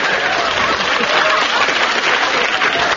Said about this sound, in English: The round of applause was for the glass of water that I threw over Derek Nimmo.